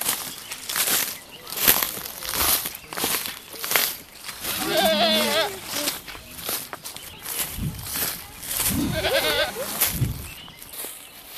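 Goats bleat twice, with wavering, quavering cries near the middle and again toward the end, over a steady background of shuffling hooves, rustling and crisp footstep-like clicks.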